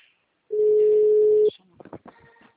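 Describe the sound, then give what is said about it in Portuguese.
A single steady telephone ringback tone sounds for about a second, clear, on an outgoing call placed by a Banco Santander correspondent, followed by brief muffled voice-like sounds and faint clicks on the line. “Está a chamar?”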